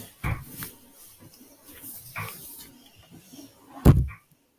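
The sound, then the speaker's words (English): A dog snorts and grunts in short bursts, with a louder huffing snort near the end before it goes quiet. “Can you hear it? We have our dog right here anyway.”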